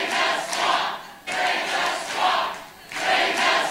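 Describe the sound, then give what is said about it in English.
A loud rally crowd at a 2016 Trump campaign speech cheers and roars in three rhythmic swells, like a chant rising and falling, with no single voice standing out. “One of the big applause lines in his speeches during 2016.”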